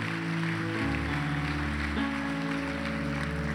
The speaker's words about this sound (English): Church, just look this way. Can we give, in fact, all of those people who raised their hand firstly, a great clap.